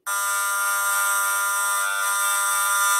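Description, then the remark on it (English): A mother's baby monitor signal rendered through an RF meter: a loud, steady electronic buzz with a dense, harsh harmonic tone that starts abruptly and holds unchanged for about three seconds, no voices. “And the mother's baby monitor.”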